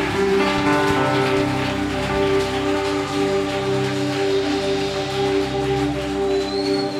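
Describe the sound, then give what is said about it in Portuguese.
An audience applauds the Lord in a steady, dense patter lasting several seconds, with a sustained keyboard chord ringing underneath throughout. “Aplauda o Senhor, porque Ele é digno.”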